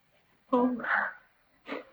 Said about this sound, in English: Oh, God bless you.